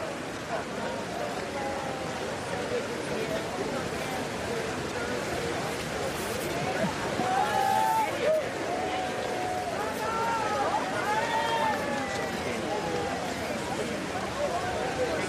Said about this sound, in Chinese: 可以听到现场有这个民众了在鼓掌欢迎拜登总统的到来。